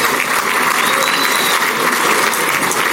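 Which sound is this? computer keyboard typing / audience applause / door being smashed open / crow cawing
audience applause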